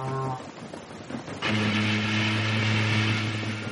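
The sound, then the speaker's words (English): A steam schooner, crawling in from the heads against the tide, sounds: a low, steady droning tone that starts abruptly partway through and holds over a loud rushing hiss, after a brief, fainter humming tone at the start. “What's that one? It's quite different. A steam schooner, near as I can judge.”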